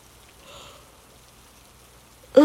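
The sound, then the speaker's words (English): Heavy rain falls outside as a steady, even hiss with no distinct drops standing out, swelling slightly early on before a voice abruptly starts right at the end. “Still can't believe how hard it's coming down out there.”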